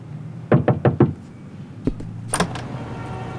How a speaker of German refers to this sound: Als mir die Tür geöffnet wurde, musste ich feststellen, dass die einen der Scheintoten vergessen hatten.